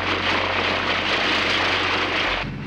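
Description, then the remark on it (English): A loud, steady aircraft engine roar with a low droning hum underneath, overhead as it flies over farmland during a police search; the higher rush cuts off abruptly near the end while the low rumble continues. “Both police helicopters and private planes flew over the area with hopes of finding a clue.”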